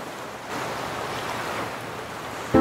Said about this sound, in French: On entend la mer, là.